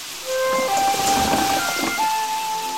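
Heavy rain starts abruptly and keeps pouring in a dense, steady hiss, loud, with a few faint sustained tones underneath and no voices.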